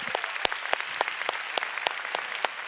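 audience applause

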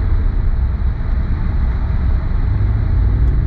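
car driving

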